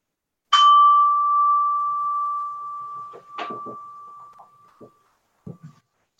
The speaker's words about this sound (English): We'll have a minute of silent meditation now, beginning and ending with a chime.